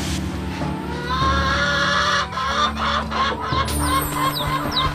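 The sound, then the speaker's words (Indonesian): A mother hen clucks loudly in an agitated, continuous run of calls as it pecks at a child who picked up one of its chicks, with a few high, short peeps toward the end and no talking. “Tetapi, tanpa disangka, datang induk ayam yang mematuk kaki”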